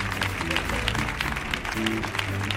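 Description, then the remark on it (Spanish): Steady, dense audience applause on El show del comandante Lara fills the whole clip at a constant loud level, with many overlapping claps and low sustained musical tones underneath. “fuerte el aplauso para Carlos Granadero y para Vicente Ruido”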